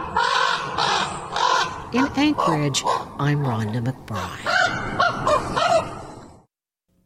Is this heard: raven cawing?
yes